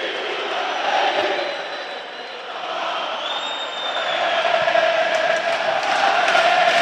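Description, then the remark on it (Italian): A big crowd at the Tardini stadium during a Parma versus Atalanta match roars an ovation and chants "Parma Parma" in a continuous, dense wall of voices. It holds steady and swells slightly louder toward the end, with faint whistles piercing through. “Sentite l'ovazione del Tardini, il grido Parma Parma”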